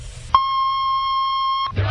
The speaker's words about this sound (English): WJBK, AM and FM, Detroit, Michigan, a service of the Star Broadcasting Company, 1500 AM with Hi-Fi FM at 93.1. At the tone, National Bureau of Standards time will be 9 o'clock.